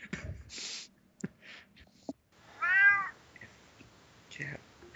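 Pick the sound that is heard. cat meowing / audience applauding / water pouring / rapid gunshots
cat meowing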